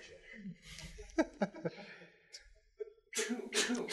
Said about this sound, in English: I had to sneeze. I'm glad no one was talking. Yeah, that's nice. Yeah, we wanted to hear that glorious sound. Stereo sound.